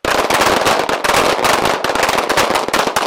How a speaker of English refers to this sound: This is also part of the dog's training. They have to learn to hear the explosive sound of gunfire and not freak out.